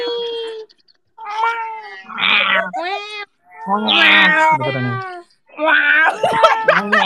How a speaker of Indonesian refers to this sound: P, ada suara kucing.